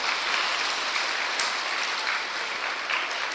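A group of children claps together in a steady, dense burst of applause that holds at an even level for a few seconds, with no voices standing out.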